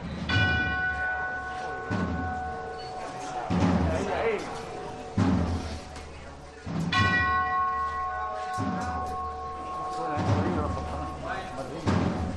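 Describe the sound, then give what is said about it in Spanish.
A large bell rings with deep, resonant strikes that linger and echo in the narrow Calle Gravina, joined by heavy thuds landing in a steady rhythm about every second and a half as the Centuria Macarena sounds, over a murmur of background noise. “Rebotaba la campana en la estrechez de esta calle Gravina.”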